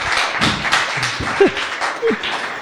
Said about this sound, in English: Then we generally clap right after that, right?